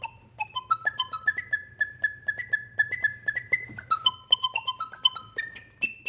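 A flute made from the metal tube of a vacuum cleaner, whose motor was reversed to blow instead of suck, plays a breathy melody of sustained whistling notes, stepping between pitches with short tongued attacks, over a steady low motor hum.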